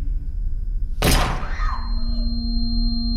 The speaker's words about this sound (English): The gunshot was far louder than I had expected, setting off a ringing in my ears.